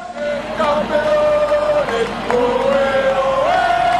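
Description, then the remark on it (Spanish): A large crowd of Spanish supporters roars and cheers loudly and continuously for Spanish athletes María Pérez and Álvaro Martín at an athletics event, many voices joining in a sustained, unison-pitched shout that dips briefly midway and swells again toward the end. “Es el grito de España.”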